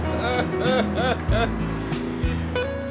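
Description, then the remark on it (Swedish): A car engine cranks over and over without catching, with a rhythmic whining starter and a couple of low sputtering bursts that die away, fairly loud. “Nej, just det, du får inte igång bilen!”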